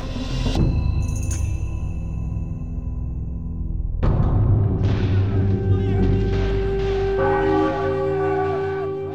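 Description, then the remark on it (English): A church bell tolls slowly, three or so heavy strikes spaced a few seconds apart, each leaving a long shimmering hum that rings out over a low, rumbling background. “A church bell rang as Marie limped through the empty, charred ruins of La Cape.”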